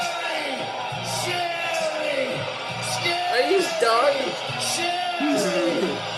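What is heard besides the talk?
wrestling arena crowd cheering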